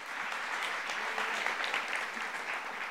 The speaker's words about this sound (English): stop somewhere during the week, raise your hands and worship God, because He is your provider. Give Him a hand clap of praise.